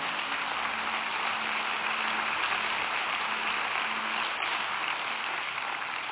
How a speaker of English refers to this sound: Would you give the Lord another hand clap offering for what He is going to do?